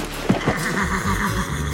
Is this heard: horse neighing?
yes